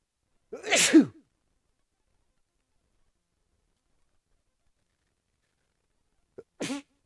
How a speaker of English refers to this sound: Oh, sorry. Not want to sneeze in your guys' ear.